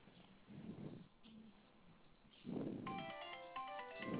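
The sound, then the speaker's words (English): A cell phone rings with an incoming call, its ringtone playing a bright, repeating electronic melody starting partway through, clear, with low muffled rustling and movement sounds underneath. “I'm calling you from my cell phone, and let me know if it's ringing.”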